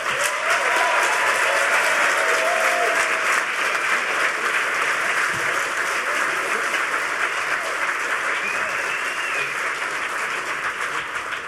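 Sustained applause from a large conference audience welcoming the Social Engineering Panel: steady, dense clapping at a consistent loud level for several seconds, with faint voices and cheers blended underneath.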